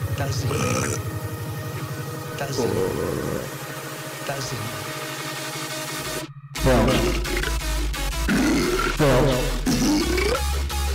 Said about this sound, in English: Who's throwing up with the This is what happens when Dude, that's like somebody having a bad time at the bathroom of their club. That's when you throw up. That's what it sounds like when you throw up in Las Vegas.